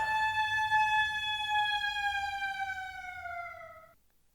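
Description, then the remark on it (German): A steady wailing siren holds a sustained tone as a test alarm on a Saturday in a small town, slowly dropping in pitch as it winds down and stops near the end, with low rumbling background noise beneath. “Nur eine Sirene probt den Ernstfall.”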